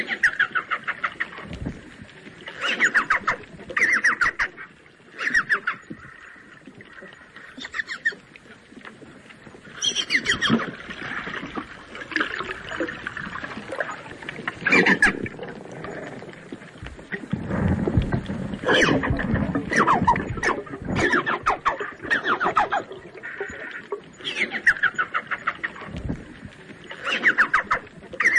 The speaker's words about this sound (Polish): skoro wiecie już, jak właśnie brzmią delfiny inia